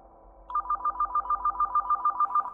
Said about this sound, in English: I was on guard when the phone rang.